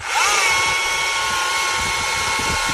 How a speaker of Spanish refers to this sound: Es la motosierra eléctrica. Efectivamente, esto es un profesional cortando un tronco de 50 centímetros de ancho como si fuera mantequilla. Ahora va a caer el cacho tronco, ¿eh? Entonces, cloc, cloc. ¡Cuidado! ¿Ves?